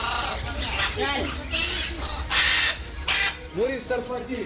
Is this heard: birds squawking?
yes